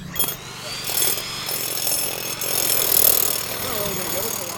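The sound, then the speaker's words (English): A power drill grinds steadily into rock to free a block holding a fossil specimen, a loud, continuous, rough whine with slight surges in intensity, with faint voices murmuring underneath. “That's your first hurdle, really, that you have to face with this specimen, is that you have to drill it.”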